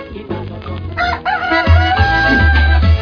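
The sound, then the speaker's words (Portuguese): A parrot lets out a loud, drawn-out booing call, a harsh, warbling jeer that wavers in pitch and carries on for about three seconds with no talking. “É, papagaio vaiador. Esse papagaio é um problema”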